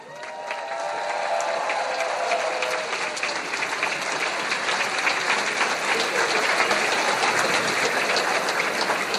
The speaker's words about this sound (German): Und deswegen bitte ich euch alle um einen großen, großen und herzlichen Applaus für unser CSD-Team.